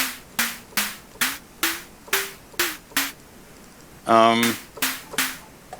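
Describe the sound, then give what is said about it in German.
A synthesized snare drum built from a quickly decaying sine wave hits about a dozen times in a steady pulse, each a sharp noisy crack over a short tonal body that shifts pitch, broken once by a longer buzzy burst. “Ich mache jetzt hier einfach mal eine Sinuswelle. Die klingt entsprechend auch recht schnell ab, weil das die Master Envelope ist.”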